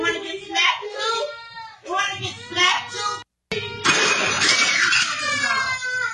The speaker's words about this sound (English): The yelling begins, and so does the little girl's crying.